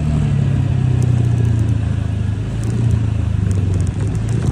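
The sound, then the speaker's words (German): A small motor scooter engine runs steadily, a loud buzzing hum with a rattly edge, its pitch sagging slightly as it idles. No one speaks. “Ja, das ist der Originalsound von meinem kleinen Roller.”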